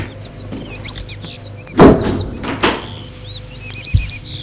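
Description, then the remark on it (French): A door on the front steps of a house swings open with a rough creaking rush, then is pushed shut with a short knock and a final latch click, while small birds chirp steadily outside in the background. “Il le fait entrer par une porte qui se trouve sur le perron.”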